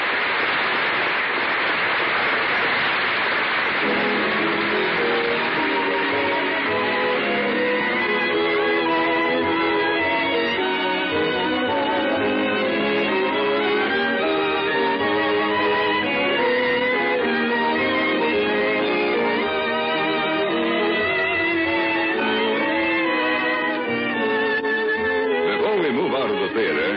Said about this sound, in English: And the curtain falls on another performance in a little theater off Times Square. Miss Lottie and Mr. Soleil are in front of the footlights. Did the first nighters like it? Listen to the applause.